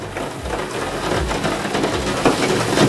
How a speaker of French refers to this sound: la pluie sur le Velux